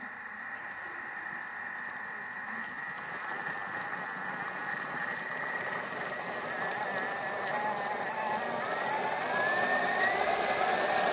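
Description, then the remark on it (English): A steady, high-pitched motor whir runs continuously, rising slightly in pitch and loudness toward the end, a high-speed blender running at up to 10,000 revs pureeing hot tomato soup, with no talking. “Goes to 10,000 revs, by the way, and that's just giving it a bit of a puree.”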